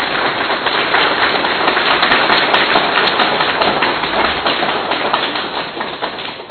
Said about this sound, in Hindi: एक बार जोर से अपने लिए ताली बजा लो।